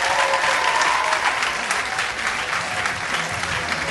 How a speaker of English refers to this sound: Can you please give everyone a massive round of applause?